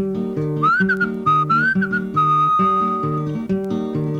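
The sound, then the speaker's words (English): A high whistled bird call, short rising chirps followed by a longer sustained tone, imitating a songbird over steady, rhythmic instrumental accompaniment. “Well, I had me a dog, and the dog pleased me, and I fed my dog under yonder tree, and the dog went. And the cat went. And the bird went.”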